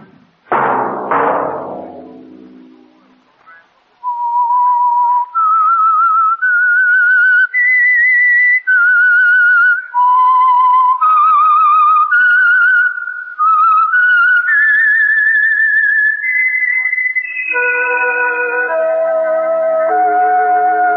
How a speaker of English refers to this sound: That whistle be your signal for the Signal Oil program, The Whistler, each Sunday night at this same time.